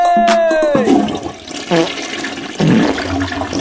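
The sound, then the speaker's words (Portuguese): A toilet flushes loudly, a rushing gurgle of water that surges, dips, and surges again over a few seconds, following a brief high tonal whine at the start. “Dá descarga aí, DJ.”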